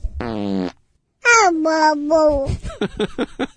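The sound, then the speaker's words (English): A short, buzzy fart sound, likely a voice imitating it, is followed by a drawn-out, falling vocal cry and a string of quick, choppy vocal bursts, all fairly loud. “you get 100% of the fart when you're 3 feet tall”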